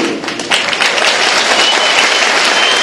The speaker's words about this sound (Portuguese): Por isso eu vim assistir, e vamos todos aplaudir o seu canto, o seu canto.